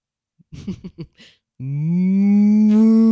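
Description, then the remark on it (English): A person imitates a cow, letting out one long, loud, low moo that holds steady and rises slightly in pitch, after a few quick, short vocal sounds. “How about a cow?”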